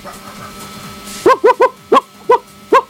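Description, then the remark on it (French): A person imitates a dog that sees a bandit, giving six sharp, loud bark-like yelps in an uneven rhythm after a short quiet stretch. “fais-moi le bruit d'un chien qui voit un bandit.”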